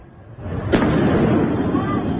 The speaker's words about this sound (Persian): این هم ویدیویی است که نشان می‌دهد انفجارهای داخل زندان اوین احتمالاً به علت شلیک پرتابه‌های نامشخص بوده است.